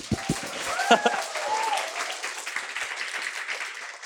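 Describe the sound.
An audience at a live event breaks into sustained applause for the guests, a dense, even patter of many hands clapping throughout, with a few voices whooping and cheering at the start.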